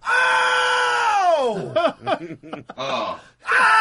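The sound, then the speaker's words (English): A single voice lets out a long, loud, high scream that slides downward in pitch, followed by choppy yelps and another shriek, imitating people throughout an apartment complex screaming in celebration during a game. “There's like two amazing screams throughout his entire neighborhood.”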